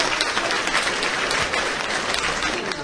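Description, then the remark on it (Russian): Steady audience applause in a concert hall for a domra teacher of a music college's folk department fills the whole stretch, a dense, even wash of many hands clapping at a constant level with no voices standing out. “ну всегда счастливы видеть вас в зале, друзья, аплодисменты вам.”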